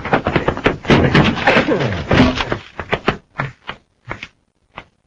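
A door being forced open: a dense burst of crashing and splintering noise, followed by several spaced heavy thuds that grow fewer and quieter.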